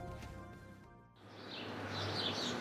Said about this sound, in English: Ooh, is that the sound of Harvard-educated birds? Yes. Yes, it is.